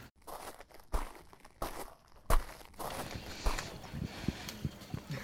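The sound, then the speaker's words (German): Footsteps climbing a flight of stairs up to a greenhouse, the succulent house, a series of irregular thumping steps with a gritty, crunchy scrape, moderately loud, with a steady hiss of wind behind them and no one speaking. “Man muss so eine Treppe hochlaufen und kann von hier ein bisschen den Wind genießen.”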